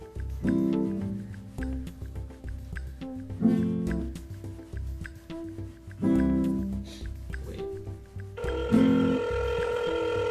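telephone ringing

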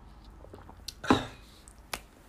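sipping water

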